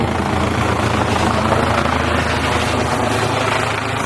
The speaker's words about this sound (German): Hat sich gerade ein Polospieler verletzt und der ADAC kommt mit dem Notarzt. Die landen jetzt hier mal eben. Hubschrauber. Hubschrauber-Einsatz.